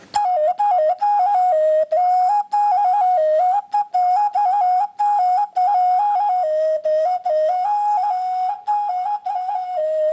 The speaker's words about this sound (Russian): Например, вот такой петушок. Таких делали в деревне Хлуднево, это в Калужской области. Это русская игрушка, звук у нее вот такой.